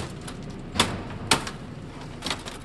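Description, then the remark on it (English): A man in a computer recycling warehouse bashes a laptop apart with a hammer: two sharp, loud blows crack against it, followed by a softer third strike, over a steady background hiss with no talking. “Well, today a guy in a warehouse is bashing it apart with a hammer.”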